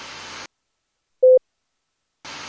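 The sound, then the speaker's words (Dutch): A single short, clear Morse code beep tone sounds on its own in silence, framed by brief bursts of loud static hiss before and after, as part of a word being sent in Morse code. “Vervolgens zei ik het betreffende woord in morse.”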